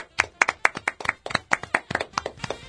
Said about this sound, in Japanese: 拍手、イエイ。